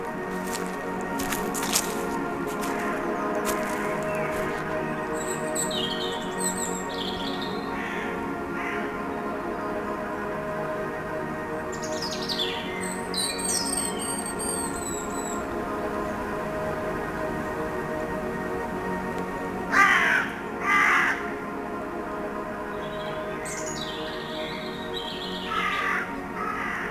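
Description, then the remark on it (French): Birds chirp and call intermittently among rocks and trees, with scattered bright calls and a few harsher caws rising over a steady, droning background that persists throughout. “Royaume des pierres, des arbres. Des oiseaux.”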